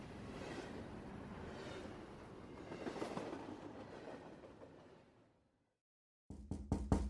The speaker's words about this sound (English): I awoke to persistent knocking, a voice repeating my name in tandem with the raps